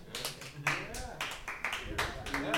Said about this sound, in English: I will take the golf claps. Most I will take the golf like claps.